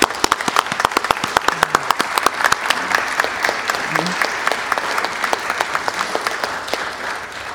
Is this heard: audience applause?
yes